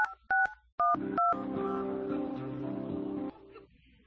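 Four quick phone keypad beeps, each a short dual-pitched tone spaced unevenly as a bank account number is punched in, followed by a steady, humming electronic drone that cuts off.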